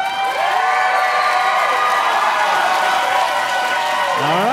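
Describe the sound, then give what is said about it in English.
A crowd claps and cheers continuously for Boshek in an applause-meter vote, with shrill whoops and whistles rising above a steady wash of applause that holds loud throughout. “Let's switch on the applause meter. And let's hear it first for Boshek.”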